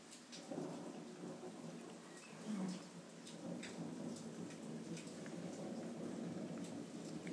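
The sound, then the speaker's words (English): Steady rain pours down with a dense hiss and patter, while low rumbles of thunder roll underneath, swelling briefly before settling back into the constant downpour. “We've had every type of lightning now, except for a ball lightning.”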